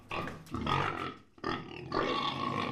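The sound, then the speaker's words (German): A person dressed as a pig, competing in a pig-grunting championship in southwest France, imitates the grunting of pigs, making loud grunting and snorting noises in about three rough, drawn-out bursts with only a brief pause between them. “Dabei sind die Teilnehmerinnen und Teilnehmer als Schweine verkleidet und müssen so gut wie möglich das Grunzen von Schweinen verschiedenen Alters nachahmen.”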